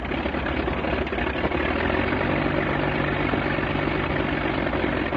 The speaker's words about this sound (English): This engine is a 180 horsepower Mercedes six-cylinder engine, the most famous of all the aircraft engines used by the Germans during World War I.